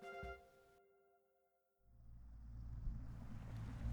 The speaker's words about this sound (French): Le bateau ricocha sur les vagues, le vrombissement de son moteur se répercutant sur les eaux du golfe du Saint-Laurent.